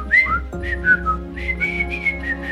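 Grumpy, the dwarf, whistles a short, bouncy melody in a jail scene of a TV series, the clear notes sliding between pitches in a cheerful, rhythmic phrase, with a faint steady hum underneath.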